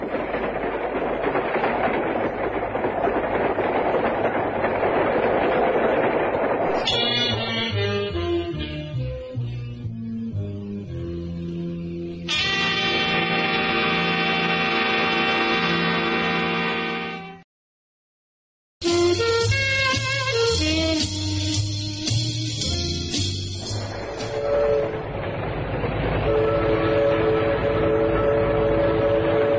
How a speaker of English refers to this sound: Train sure gets bumpy sometimes.